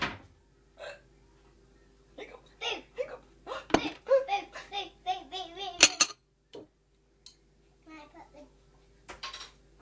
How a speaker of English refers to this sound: I've got hiccups, really annoying. Are you going to make me jump?